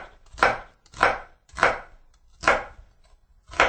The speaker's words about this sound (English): And then what I'm going to do, I'm just going to dice the onion. And so I go straight up and down like so.